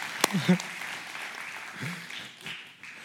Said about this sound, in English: She will, you can clap for that. Let's clap for that. Let's go.